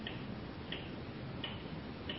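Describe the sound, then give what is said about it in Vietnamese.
A clock on a table ticks steadily at an even pace, four light clicks spaced about three-quarters of a second apart over a low, constant background hum, with no voices. “Ví dụ như chúng ta nhìn sự vật ở trên bàn, như là đây là đồng hồ, đây là cây viết, thì mình nói đây đồng hồ, nói đây cây viết”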